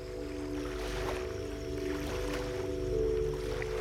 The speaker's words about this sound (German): Mit dem Einbruch der Nacht kannst du in einem kleinen Strandhaus in einen friedlichen und erholsamen Schlaf finden, während dich das sanfte Rauschen der Wellen begleitet.